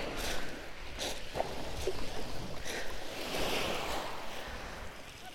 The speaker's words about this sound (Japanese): なんか波も結構穏やかなのかも。